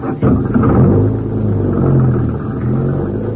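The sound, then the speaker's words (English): A car drives along the road, its engine holding a loud, steady low rumble with a droning hum that wavers slightly in pitch for the whole stretch. No voices are heard. “There's a road straight ahead. Yeah, and there's the car.”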